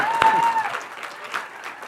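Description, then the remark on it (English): A burst of audience applause, many hands clapping together in a dense, steady patter that fades slightly toward the end, with a brief whistle-like tone near the start. “It would be Trinitarian, so I guess we could clap one more time.”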